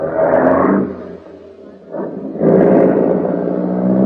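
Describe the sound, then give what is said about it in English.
A car engine roars loudly as it pulls away, easing off briefly midway before surging again into a strong, steady rumble. No one speaks. “The car drove off like a house afire.”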